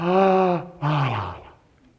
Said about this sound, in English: The Trinity is boring. It's a big, fat yawn.